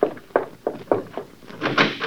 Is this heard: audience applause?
no